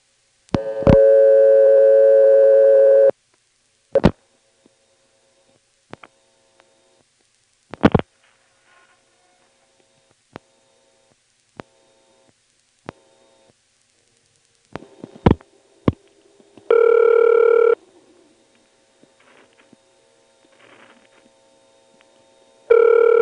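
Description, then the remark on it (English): Through a coin payphone line, a couple of loud tone bursts alternate with sharp clicks, a call to the time number in the 625 Pentaconda exchange going through and ringing, with faint line noise between and no one speaking. “Here's a call to the time number, which happens to be in 625, the Pentaconda.”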